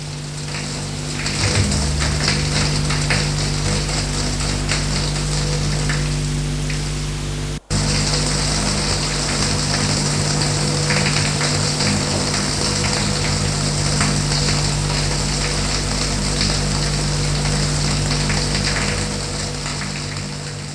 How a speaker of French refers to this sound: Elle entre dans la baignoire qui lui paraît minuscule. Fait couler l'eau. Il y a trop de tuyauterie. Ça fait du bruit. C'est comme dans les années 50.